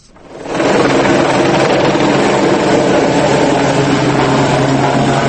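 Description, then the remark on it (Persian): A loud, steady propeller drone of the Swiss-built Solar Impulse, the first solar-powered airplane, as it lands on a Thursday. The drone swells in within the first half second, then holds as a constant whirring roar with a low hum beneath it. “آنهایی که فرود نخستین هواپیمای خورشیدی را روز پنجشنبه به چشم دیدند باورشان نمیشد که انسان گامی بزرگ به سوی پروازهای جاودانه برداشته است.”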